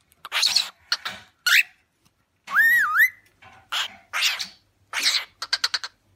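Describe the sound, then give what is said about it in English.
A pet parrot lets out a rising-and-falling whistle among bursts of raspy squawks and chatter, ending in a quick series of short, sharp chirps. “I have three lovely parrots.”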